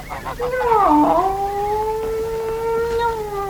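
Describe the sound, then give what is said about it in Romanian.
A cat lets out one long, drawn-out meow that dips in pitch early on, then holds a steady wailing tone for several seconds, loud, with nothing else around it. “Taci odată cu miorlăiturile astea.”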